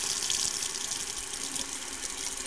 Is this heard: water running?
yes